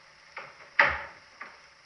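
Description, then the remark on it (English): A door is pushed shut with one solid, fairly loud thud, framed by a lighter click just before and another soft knock after. No one speaks. “Shut the door,”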